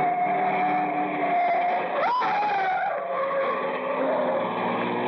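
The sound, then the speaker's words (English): A car starts up down a street at night, its engine roaring and holding a steady high-pitched drone that briefly surges as it revs and accelerates, with a faint tire-squeal edge and no voices. “It was a short trip because a car started up down the street and the old man couldn't have made it with a pocket full of aces.”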